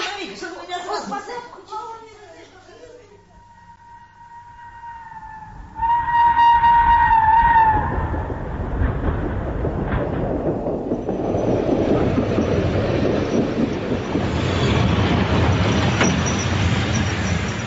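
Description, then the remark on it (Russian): An express passenger train rumbles through a busy railway station, with a long horn blast sounding partway through and a steady mechanical roar building afterward, mixed with faint background voices. “В тот же день в общую вокзальную толчею, опираясь на палочку, вышел из вагона скорого поезда седой человек в коричневом пальто.”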